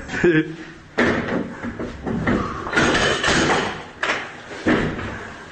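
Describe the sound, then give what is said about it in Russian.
Heavy thuds and metallic bangs as Russian soldiers force open apartment doors in occupied Selidovo, several irregular blows a second or so apart, loud, with people talking in the background. “Двери вскрываем.”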